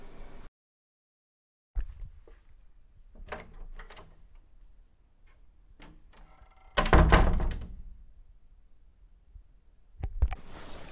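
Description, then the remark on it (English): A door being closed: soft handle clicks and rattles build up to one loud, heavy thud as it shuts, followed by a quieter bump a few seconds later. No talking. “And starting off your first day right on time to close the door, take a seat in front of my desk.”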